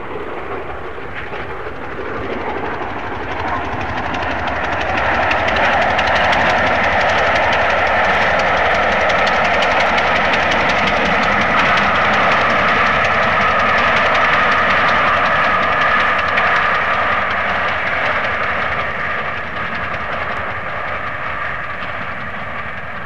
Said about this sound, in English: It's quite obvious when you listen to the sound of the locomotive running through Reading that something is rather strange. You can hear this peculiar tick on the beat of the locomotive as it's running.